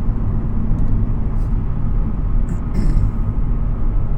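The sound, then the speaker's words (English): A steady, loud low-frequency drone of a car engine and road rumble at highway speed, the car at 110 in fifth gear at 3,000 RPM, continuous throughout with faint brief hissy transients overhead. “He's driving very fast, as you can tell, because I'm at 110, fifth gear, 3,000 RPM, and the guy's flying by me.”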